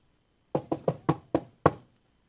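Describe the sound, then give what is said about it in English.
Six sharp knocks on a front door, like Mormon missionaries knocking, in a quick, slightly uneven rhythm, clear, with no voices or other sounds around them. “What do they say at your door?”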